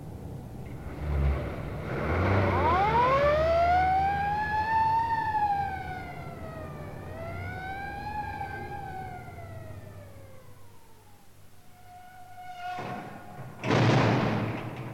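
A police car siren wails in a slow, loud rise and fall over a low engine rumble, then fades out, followed by a couple of brief thumps near the end.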